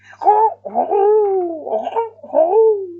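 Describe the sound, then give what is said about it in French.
A voice imitates two turtle doves perched in a hazel tree cooing: three or four drawn-out, warbling coos with rising and falling pitch, fairly loud, each separated by a brief pause. “En route pour le château, ils passèrent devant le noisetier, où deux tourterelles étaient perchées.”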